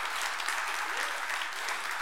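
Steady, dense applause from an audience, many hands clapping at once in a continuous bright patter that holds at an even level for a couple of seconds.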